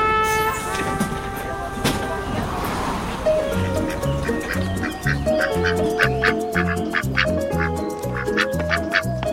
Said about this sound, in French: Ah, alors là, je suis accueilli par un canard. Bonjour, mon pépère.